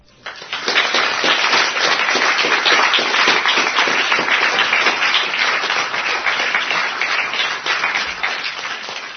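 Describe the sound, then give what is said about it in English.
A loud, sustained round of applause from many hands for listeners who gave the right answers to a quiz question, a dense crackle of claps that starts abruptly and holds steady for about nine seconds before easing slightly at the end. “Shall we all give a loud round of applause to all these listeners who have taken trouble and given the right answers?”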